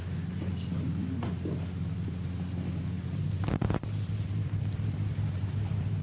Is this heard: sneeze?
yes